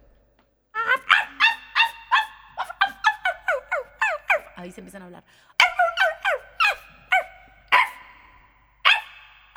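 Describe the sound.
A person imitates a poodle's rapid, high-pitched yapping barks, as of a poodle on the sidewalk while another dog passes on the opposite sidewalk, delivered in quick bursts of many yaps with short pauses between, loud, with a brief spoken phrase in the middle.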